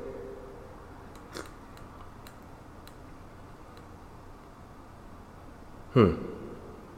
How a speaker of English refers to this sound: Now, mind you, there is no sugar. I haven't added apple cider vinegar or lemon so that there is a true understanding of what the taste is. Here's the first sip.